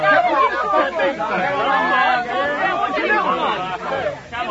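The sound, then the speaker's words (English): A crowd of onlookers chattering all at once, many overlapping voices forming a steady, fairly loud babble with no single speaker standing out. “Sir, move this crowd back. I can't hear myself think.”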